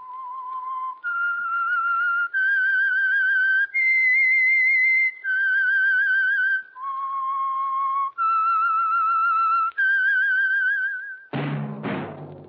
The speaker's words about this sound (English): Whistle is your signal for the Signal Oil Program, The Whistler.